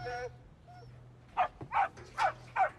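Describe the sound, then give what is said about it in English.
A dog lets out a short high whimper, then barks four times in a steady, evenly spaced series, fairly loud over a low constant hum. “And shoot the dog, too.”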